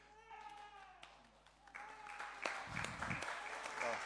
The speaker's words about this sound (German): Ja, da kann man auch klatschen.